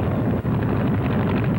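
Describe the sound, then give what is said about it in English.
The engine of a small open-cockpit training airplane roars loudly and steadily during a training flight, a thick low rumble with a rushing, wind-like edge that pulses slightly, with one brief dip near the start and no voices. “Next comes the training flight, so let the motor roar.”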